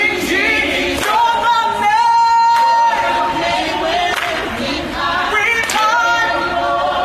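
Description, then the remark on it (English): A crowd sings along together in a loud, steady mass of voices carrying a melody, with a few scattered bursts of clapping breaking through every second or two. “People are clapping and singing along.”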